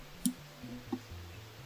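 Two sharp computer mouse clicks, spaced well under a second apart, over a low steady hum with no voices.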